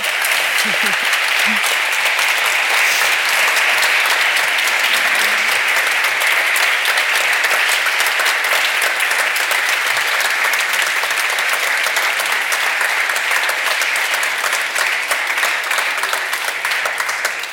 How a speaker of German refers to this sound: Bitte einmal einen Applaus. Danke, danke.